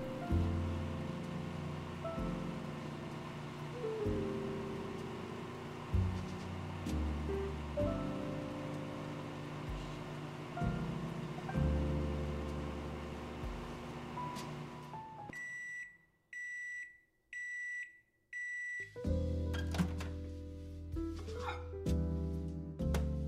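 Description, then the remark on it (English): A microwave oven heating milk or water hums steadily for about fifteen seconds, then gives a short series of high, evenly spaced beeps before a louder whirring resumes. No one speaks. “Next, you're going to heat up your milk or water in the microwave for 1.5 to 2 minutes.”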